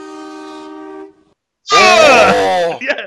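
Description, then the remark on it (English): A loud train horn holds one steady, harmonically rich tone for about a second and then cuts off. After a short pause, a loud wavering groan-like burst follows. “Oh yeah, big loud trains.”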